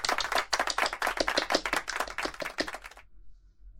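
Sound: group applause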